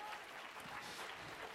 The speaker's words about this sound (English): Let's clap our hands unto him.